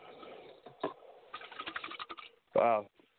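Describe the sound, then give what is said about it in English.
A pet bird named Bob lets out one loud, harsh squawk, preceded by a stretch of soft clicking and tapping noises. “I look forward to that more than sitting here listening to Bob squawk.”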